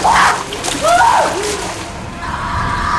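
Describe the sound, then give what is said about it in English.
Loud water splashing and sloshing as a woman swims up from underwater and breaks the surface at the bottom of the Devil's Throat, with a few choppy bursts followed by steadier churning water and a brief breathy gasp for air. “She swims up to the surface and gasps for air.”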